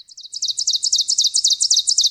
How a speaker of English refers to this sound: Let's go from the treetops back to the ground to hear the ovenbird. This little warbler may be small, but it has a big call. Teacher, teacher, teacher, teacher, teacher.